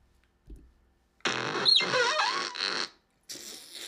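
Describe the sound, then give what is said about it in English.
A soft low thump, then a loud, raspy, squealing cry of a skunk creature from a video game lasting over a second, and after a short pause a brief noisy fart sound closes it out. No one speaks. “Get the fart at the end.”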